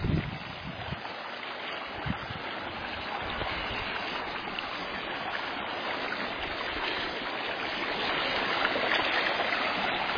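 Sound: creek water flowing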